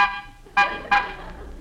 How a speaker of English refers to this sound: Pull up, Rochester. We'll stop here. Uh, honk the horn. Maybe somebody will come out.